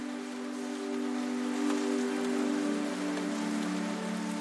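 Steady rain pattering softly against a window, continuous and even with no voices, plus a faint sustained low hum running underneath throughout.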